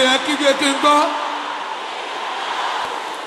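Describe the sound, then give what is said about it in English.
A group of women shouts a prayer together, 'By the power in the blood of Jesus, I chase every infirmity out of my body,' in loud, overlapping voices for about a second, then the sound fades into a sustained, noisy crowd murmur. “Can I hear the sisters shouting it?”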